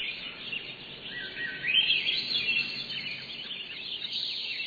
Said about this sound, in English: In July, you might have heard this dawn song. Many birds singing at first light.